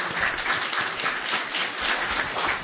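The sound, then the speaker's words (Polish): Steady applause from an audience, many hands clapping together in a dense, continuous wash of sound at moderate volume, with no voices standing out. “Ja tylko to dodam, że niestety pan profesor nas w tej chwili opuszcza, są też oklaski.”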